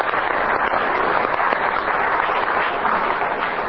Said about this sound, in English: So let's give these folks a round of applause. Thanks for being here.